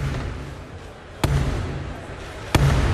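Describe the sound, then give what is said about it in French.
Two heavy, sharp knocks on a closed door by Black Rod, the usher, who must knock before entering during the parliamentary ceremony. The knocks are spaced slowly about a second apart, each ringing briefly over a low, steady murmur of background noise. “Il se voit d'abord fermer la porte au nez pour le forcer à frapper avant d'entrer.”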